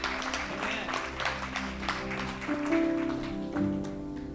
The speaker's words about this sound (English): Come on, go ahead. You can give the Lord a round of applause.